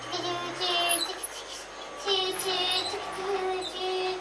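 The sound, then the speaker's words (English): A child makes wordless train noises with their voice while a train goes slowly around corners, a string of high-pitched, wavering vocal sounds rising and falling in bursts over a few seconds. “Do you want to do the train noises while they go around the corners?”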